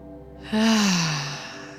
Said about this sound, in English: And now starting to breathe with purpose, inhaling through the nose.